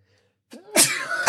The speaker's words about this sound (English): Sorry. That was the most dramatic sneeze. I felt it tickling in my nose. I don't think I've ever sneezed on the podcast before. There's a first time for everything. Holy smokes. That took over my brain.